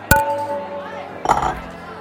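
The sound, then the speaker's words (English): A bright glass clink rings out sharply near the start as glasses are clinked in a toast with another person, its tone lingering briefly, followed by a second softer clink and some murmured voices. “I actually got to cheers with somebody.”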